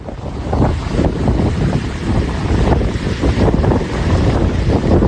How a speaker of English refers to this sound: That's the sound of winds of more than 230 kilometres per hour.